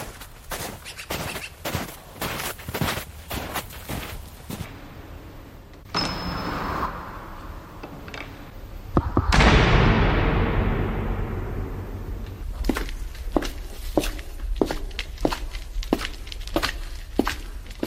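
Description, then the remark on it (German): Steady, crunching footsteps of two people trudging through freshly fallen snow to church on the eve of Christmas Eve, with no biting wind and grey clouds overhead, in an even rhythm, broken midway by a few seconds of rushing, hissing noise before the crunching steps resume. “Und als sie den Vorabend des Heiligen Abends zur Kirche stapft, ist Herbert wieder an ihrer Seite.”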